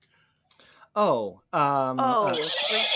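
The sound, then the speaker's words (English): A voice imitates a horse's neigh: two loud, wavering whinny-like cries, the first short and falling, the second longer and shakier, with a brief pause between them. “Heard a horse”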